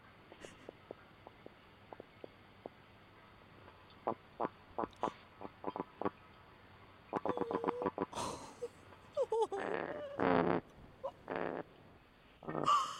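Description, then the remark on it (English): A bottom-dwelling animal gives a string of low, clicky grunts in uneven pulses, speeding into quick rattling bursts before a few louder, drawn-out growls close the sequence. “It looks like a growl or a grunt.”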